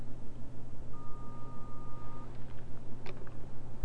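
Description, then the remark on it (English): A single steady electronic beep holds for about a second over a low background hum, followed by a few faint clicks of buttons being pushed on a telephone keypad. “I don't know if you dialed operator or not this morning.”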